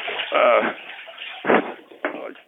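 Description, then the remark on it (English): A sharp splash as something drops into bath water, followed by a second smaller slosh, with a brief voice just before. “I dropped it in the water.”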